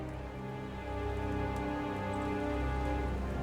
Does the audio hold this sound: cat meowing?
no